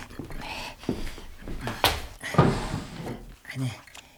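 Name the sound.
desk drawer being opened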